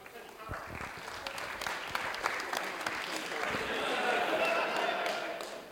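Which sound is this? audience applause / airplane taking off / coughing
audience applause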